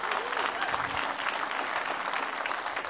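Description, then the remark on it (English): An audience claps for the Lord in a dense, steady wash of applause that stays loud and even for the whole stretch, with a few faint voices mixed in beneath the clapping. “Give the Lord one more clap.”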